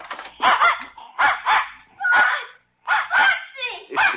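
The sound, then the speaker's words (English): A dog named Spot, let out of a door to greet a boy, barks excitedly in quick bursts, about seven or eight sharp, high yaps grouped in pairs with short pauses, loud and without any voices. “I can't tell which one of them is wagging most, boy or dog.”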